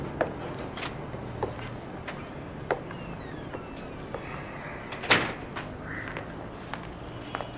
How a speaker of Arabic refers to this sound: افتحي الباب خليه يفوت لجوا يا أمي. هلأ الجيران بيشوفوكي على الباب بيصيروا يقولوا مع مين واقفة عم تحكي.